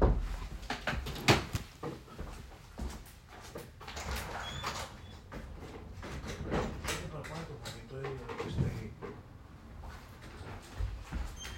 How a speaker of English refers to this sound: That was the cauliflower pizza I ordered that was knocking on my door.